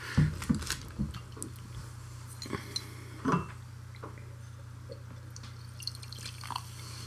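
Tasting glasses being rinsed: small splashes and drips of water mixed with light, irregular clinks of glassware, fairly quiet over a steady low hum, with no one speaking.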